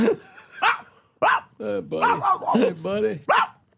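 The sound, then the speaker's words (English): A person's voice imitates a dog, with a quick series of about eight or nine fairly loud yapping barks and whiny yelps in an uneven rhythm. “I just want you to think about it and bark.”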